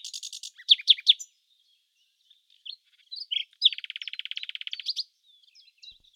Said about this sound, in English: "But I think we shall soon hear her now." And presently the nightingale began to sing.